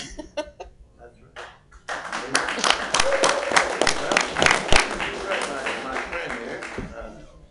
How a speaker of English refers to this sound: So you've all played a part in that. So you should clap for yourselves.